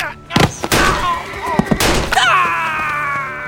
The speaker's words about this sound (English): They were all frightened by the gunshot and bolted away.